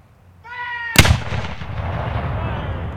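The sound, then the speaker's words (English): A single loud historic cannon blast booms out at a battle reenactment, its sharp crack rolling into a long, rumbling echo that fades slowly. A brief, sustained tonal call comes just before the shot. “We feel really good if we set car alarms off. Then we know we had a good shot.”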